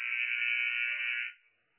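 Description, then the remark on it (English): A single loud, sustained electronic buzzer blares at a steady mid-high pitch for over a second, then cuts off and leaves a brief fading tail. The first buzzer during a timeout in a basketball game between the Central Catholic Knights and Culver Academy, fourth quarter, with no voices. “Wait for that first buzzer.”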